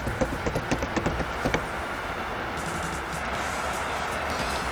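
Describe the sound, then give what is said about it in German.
A train rolls past, opening with a quick run of rhythmic clacks before settling into a steady, broad rushing roar. No one speaks. “So, das macht keinen Sinn, dass wir hier warten, bis der Zug vorbeifährt.”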